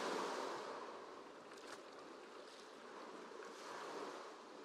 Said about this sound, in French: À chaque pas, vos pieds s'enfoncent un peu plus dans le sable humide. Et les petites vagues viennent baigner vos pieds et vos chevilles.